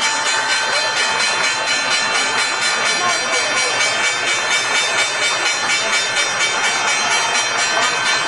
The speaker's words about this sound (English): And there's the closing bell.